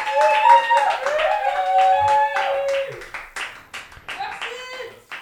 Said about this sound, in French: un tonnerre d'applaudissements pour Hugo